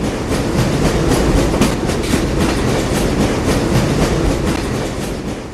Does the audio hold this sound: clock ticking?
no